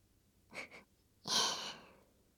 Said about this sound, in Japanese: まだはぁはぁってしてる。